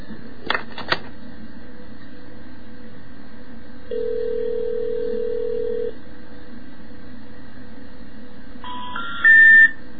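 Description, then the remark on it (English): A couple of sharp clicks as a telephone number ending in four nines is dialed, then a steady low call tone held for about two seconds, followed by a rising three-note intercept tone at the end. No one speaks, and there is faint line hiss underneath. “But speaking of numbers, here's what you hear when you dial that same number that I was about to dial, with four nines at the end, through voice scream, as we call it.”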